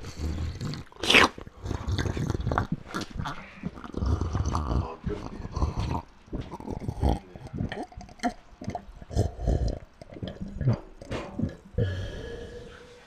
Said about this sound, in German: Ein Gluck Gluck, ein bisschen Gluck Gluck. Das letzte Wasser, was wir haben, leider.